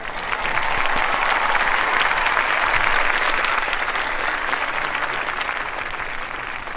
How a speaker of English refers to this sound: There is applause. I was impressed. We have 100 people. All those people. Yeah, we have 100 people here in the studio.